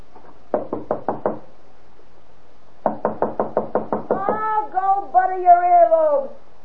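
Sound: knocking on a door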